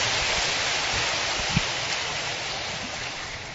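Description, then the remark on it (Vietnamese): A crowd gives a round of applause to thank guests for their presence and for sharing, dense and steady clapping blending into a continuous wash of sound for several seconds, with no voices over it. “Một lần nữa xin cảm ơn sự hiện diện của các bạn và chia sẻ của các bạn, một tràng pháo tay.”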